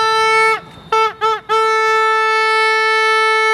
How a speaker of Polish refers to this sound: Pan trąbką daje sygnał, że nie zgadza się pan z przebiegiem tej obwodnicy.